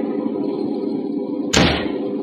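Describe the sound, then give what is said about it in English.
A door is shut with a single heavy, sharp slam that lands abruptly over a steady low rumbling background, its impact ringing briefly before fading back into the hum. No one speaks. “All right, now shut the door.”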